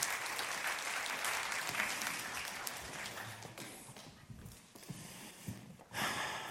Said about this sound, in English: Can we give them a round of applause, just welcoming them?